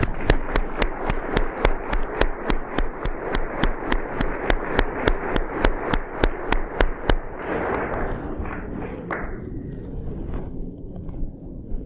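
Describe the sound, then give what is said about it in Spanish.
A crowd applauds the facilitators, clapping in steady unison, about three sharp claps per second for roughly seven seconds, then breaking into looser, scattered applause that gradually dies away. “Un aplauso por ustedes.”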